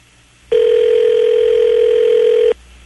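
A single steady electronic ring tone from a telephone line as a call is placed to CBS Radio's FCC indecency regulations training line, loud, lasting about two seconds before cutting off abruptly, with no voices.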